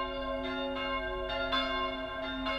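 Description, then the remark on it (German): Two church bells, cast in 1762 and 1772, ring continuously, with sustained harmonic tones and fresh strikes roughly every second layered over the lingering hum, moderately loud with no voices present. “Zu der einst reichen historischen Ausstattung der Kirche gehören auch die beiden Glocken aus den Jahren 1762 und 1772.”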